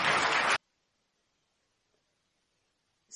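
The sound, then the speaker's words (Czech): A loud burst of audience clapping at a discussion event as a guest engineer is thanked and leaves, cutting off abruptly after half a second, followed by near silence and a short noisy swell at the very end. “Ano, poprosím, potlesk.”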